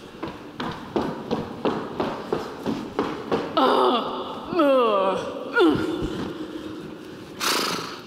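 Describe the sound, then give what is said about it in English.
A voice imitates a horse: rhythmic clip-clop clicks and panting breaths for a few seconds, then a wavering, descending whinny sound, ending with a breathy snort. Fairly loud. “Horse noises.”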